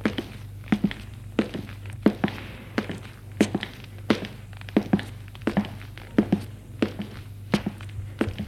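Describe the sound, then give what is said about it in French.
Footsteps walk steadily along a corridor, a brisk run of hard, clear steps on a firm floor over a low background hum, with no voices. “Ils suivent le couloir.”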